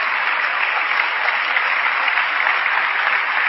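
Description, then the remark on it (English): A large audience claps for their pastors, a dense, sustained wash of applause filling the whole stretch at an even, fairly loud level with no voices standing out. “Clap for your pastors.”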